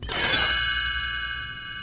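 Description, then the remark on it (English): A bright chime struck once as the page-turn cue of a 101 Dalmatians read-along storybook recording, its shimmering metallic tones ringing out clearly and fading slowly over a couple of seconds, with no voices present. “You will know it is time to turn the page when the chimes ring like this.”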